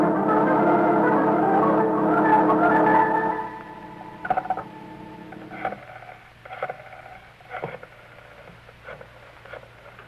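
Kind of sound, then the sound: household object, telephone being dialed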